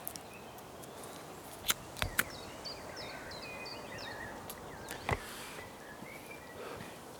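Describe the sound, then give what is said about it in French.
Faint birdsong outdoors: a short run of repeated chirping notes from a bird, over a steady background hiss, with a few sharp clicks or footsteps. “Il n'y a pas beaucoup d'oiseaux non plus, non? Ça chante un peu”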